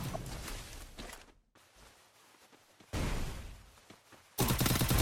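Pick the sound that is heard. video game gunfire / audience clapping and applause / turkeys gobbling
video game gunfire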